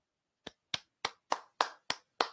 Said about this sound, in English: You hear that clapping? What a way to start off the road trip.